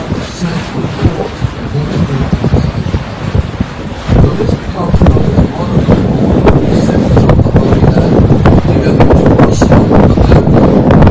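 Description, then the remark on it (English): A boat sailing on the Sea of Galilee in the Holy Land in strong wind, with steady rushing gusts buffeting the microphone and low rumbling throughout; the wind grows louder and denser in the second half. “Now you get a little bit of a idea of what would have been like to be sailing on the Sea of Galilee”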